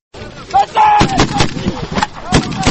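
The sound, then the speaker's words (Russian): Georgian soldiers training at a military base in Aziani before deployment to Afghanistan fire bursts of gunfire that crack and boom in quick succession, loud sharp reports overlapping with rumbling echoes, with faint shouted voices and tonal calls mixed in among the shots. “Это грузинские солдаты тренируются на военной базе в Азиане перед отправкой на службу в Афганистан.”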